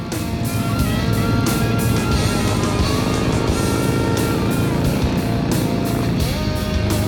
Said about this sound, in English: The four chums stand at the roadside as the menacing stream of Harleys, ranging from choppers to trikes, fat boys to sportsters, cruises by.